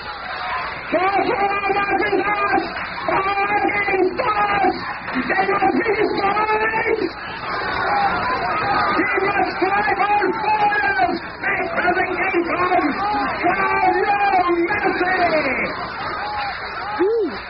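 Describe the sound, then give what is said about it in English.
A large, angry crowd shouts and roars continuously, many voices yelling over one another in a loud, agitated din that swells and surges without a break. The crowd is listening to a masked hate monger speaking from a walled speaker's platform, who steers them to a savage rage. “And looking down upon the crowd from behind the protective walls of the speaker's platform, the masked form of the hate monger steers his listeners to a savage rage of unthinking emotion.”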